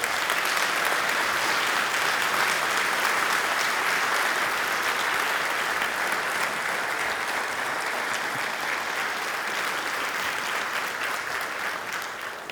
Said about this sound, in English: We're very proud. If you can give all of our graduates a round of applause.